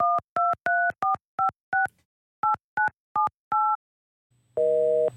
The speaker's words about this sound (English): Busy. That figures. Probably takes the damn phone off the hook so nobody can leave him a message.